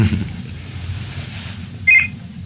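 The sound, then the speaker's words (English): A single short electronic phone beep rings out clearly near the end, over a steady low background hum with no talking. “my phone, hang on.”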